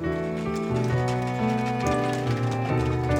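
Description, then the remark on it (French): A roan Percheron horse with a black mane pulls a cart toward the butcher's, its hooves clip-clopping at a steady, unhurried pace over a continuous tonal hum that stays loud throughout. “Debout, dans la carriole, il lui arrivait de s'énerver de l'obéissance du cheval qu'il ramenait vers la boucherie.”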